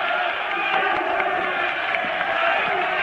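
A dense, continuous roar of many people shouting over one another, among them Tancredo Neves shouting "canalhas" in front of Senator Auro Moura Andrade, a loud, chaotic cacophony with no single voice standing out, holding steady throughout the few seconds.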